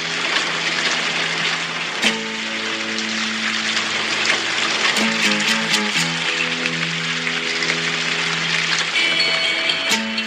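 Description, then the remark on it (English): Steady hiss of rain falling throughout, with frogs; soft sustained low tones shift pitch a few times beneath it, and occasional sharper drips come near the start and end. No talking. “It starts with some rain. And some frogs.”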